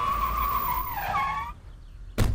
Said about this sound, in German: Schaut mal, lauter Polizisten. Wo kommen denn die Polizeiautos jetzt so plötzlich her?